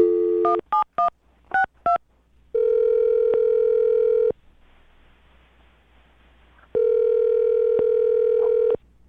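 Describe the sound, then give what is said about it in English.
A phone number is dialed on the Brooke and Jubal in the Morning radio show for a second date update: five quick touch-tone beeps in a rapid burst, then two long, steady ringing tones separated by a quiet pause. The sounds are clear, with no talking. “All right, well, I'm going to dial her phone number right now and get your second date update, okay?”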